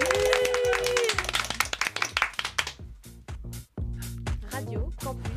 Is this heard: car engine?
no